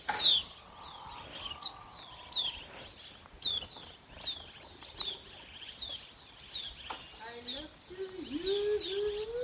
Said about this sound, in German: Also, dann hör jetzt noch ein letztes Mal auf diese schöne Geräuschkulisse, auf diese wundervollen Vögel, die hier so zwitschern.